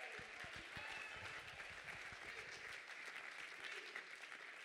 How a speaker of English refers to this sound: Oh, clap your hands all over this house right now. Somebody give God a great praise in this place right now.